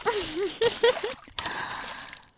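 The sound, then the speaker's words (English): A short burst of voiced gasps and exclamations gives way to a rushing splash of water as one person splashes another who is in the water, sloshing for about a second before fading. “There's no point in splashing water back at you. Since you're already in the water.”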